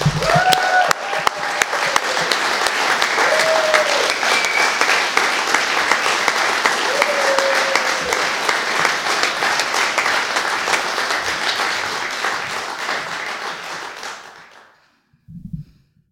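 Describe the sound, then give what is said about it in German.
Sustained, dense applause from a large audience welcoming a performer onto the stage, with scattered cheers and whoops rising above the clapping, holding steady for about fourteen seconds before fading out, followed by a brief low sound. “Ich wünsche mir, dass ihr auch sie mit sehr viel Lärm auf die Bühne begleitet.”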